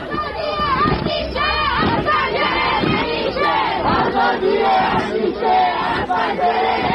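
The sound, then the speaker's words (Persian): A large crowd of protesters in the Ekbatan neighbourhood of Tehran, Iran, shouts and chants slogans loudly together in unison at night, a dense, continuous roar echoing as if from around buildings. “و بترسید و بلرزید از روزی که اونایی که میترسن و هنوز از پشت پنجره ها دارن با چشم های نگران اعتراض دیگران رو نگاه میکنن، این شعار دیشب بچه های اکباتان تهران رو لبیک بگن.”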